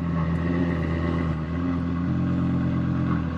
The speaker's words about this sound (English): Got the big tri-exhaust on the back. This is a V10, right? Yeah. Oh, it's got that little purr at the end, too. Yeah, people love this.